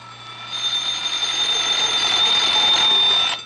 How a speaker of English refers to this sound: Say, did you hear those alarm clocks? Well, I've got three or four of them to wake up those friends of the Jack Armstrong Show who haven't been able to get into the swing of things yet.